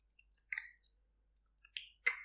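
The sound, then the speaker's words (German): Moist chewing and lip-smacking sounds made with relish as an exercise, three quick wet bursts at an uneven pace, soft but crisp against near silence, with no talking. “Fangen Sie an, genüsslich zu kauen.”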